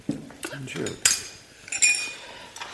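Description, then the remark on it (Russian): Cups and spoons clink over a soft clatter of dishes as tea is poured and served, with two bright, ringing chinks standing out about a second apart and a faint tap at the end. “Ну-ка, мать, чайку Платонычу добавь.”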